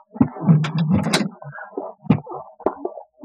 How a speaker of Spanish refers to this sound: La puerta se abre.